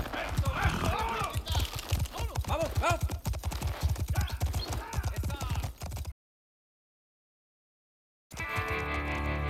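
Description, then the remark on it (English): Horses set off riding east toward the Sierra Nevada: a quick, loud clatter of clip-clopping hooves with a whinny rising over it, then the sound cuts out abruptly into silence before a sustained tone begins. “Not wanting to be tracked, back to Arroyo de Cantua, we rode east, toward the Sierra Nevada.”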